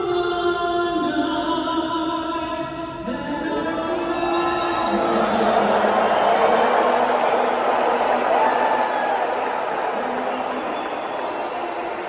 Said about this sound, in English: If that's not enough, you see Trump getting booed the moment that he hops on the Jumbotron. The moment that he's put on the large screen, you hear the entire audience begin to boo him.